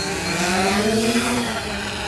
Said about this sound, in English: To find out how long and fat a North Atlantic right whale is without being overly invasive, scientists motor a few miles into Cape Cod Bay and launch a drone 200 feet into the air.